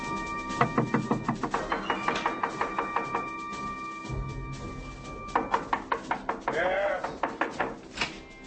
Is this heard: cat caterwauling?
no